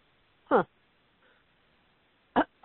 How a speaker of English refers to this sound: As I'm clearing my throat. Sounds like you still got your COVID left there